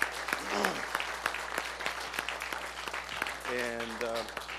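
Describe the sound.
An audience applauds with dense, steady clapping throughout, while a voice briefly calls out over it near the start and again toward the end.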